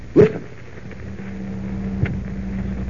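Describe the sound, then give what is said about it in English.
A heavy clunk, then a huge wind tunnel fan at an aircraft plant, used to test new plane models, starts up spinning in reverse: a low, steady droning hum settles in under a wash of rushing air, with a faint click partway through. “Professor, that fan is starting up.”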